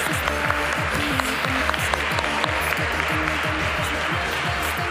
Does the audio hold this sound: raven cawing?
no